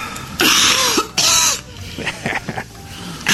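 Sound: woman coughing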